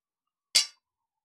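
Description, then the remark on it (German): A single bright clink of glasses touching in a toast, fairly crisp, ringing for a split second before fading into silence. No voices are heard. “Darauf sollten wir jetzt erstmal trinken, nämlich auf euch und die Liebe.”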